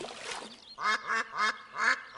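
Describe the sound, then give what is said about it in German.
A duck quacks four times in a steady, fairly loud series of harsh, nasal calls, after a brief rustle at the start; no one speaks. “Da kommt etwas aus der Luft. Eine Ente.”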